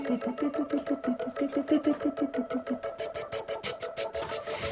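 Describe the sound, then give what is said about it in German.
A keyboard with a Hammond organ sound holds a steady chord while a fast, regular pulsing chugs beneath it, turning into brighter repeated bursts toward the end; no one speaks. “Wahrscheinlich ein Keyboard mit Hemmendorfel-Sound.”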